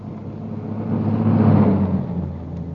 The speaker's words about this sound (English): As the car stopped, the first post office van was already approaching.